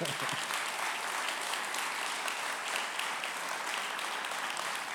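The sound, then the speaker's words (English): Sustained applause from a sizable audience for the speaker's wife, a dense steady patter of many hands clapping at once, fairly loud and even throughout with no voices standing out. “Can you give her a round of applause, please?”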